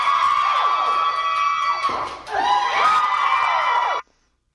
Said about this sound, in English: Hold on, wait. They're cheering that loud on the first one? She hadn't even broken the record yet. That was the first one smashed between. Then the second one, they're cheering just as loudly.